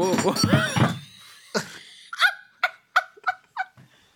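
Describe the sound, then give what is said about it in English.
A single solid wooden thunk as an object made of solid wood is knocked over, preceded by a burst of voice and followed by a run of short, choppy laughs. “I knocked you over. I'm really sorry. I'm still intact by the looks of things, so go on. It's solid wood.”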